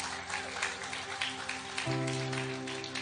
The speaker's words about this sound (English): Give the kids a round of applause.